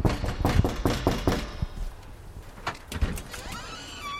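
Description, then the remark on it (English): A quick run of about six firm knocks on a front door in Ames on a freezing afternoon, while door knocking with a Clinton campaign volunteer, followed by a quieter stretch with faint shuffling and a brief higher-pitched whine. “In Ames, we went door knocking on a freezing afternoon with a Clinton volunteer.”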